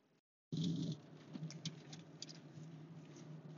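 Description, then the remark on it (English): Light rain patters steadily outdoors in Brooklyn, a dense wash of soft taps with a few sharper drops standing out, with no voices. “Starting to rain out here.”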